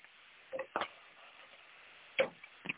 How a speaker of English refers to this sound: Meanwhile, you hear that sizzle?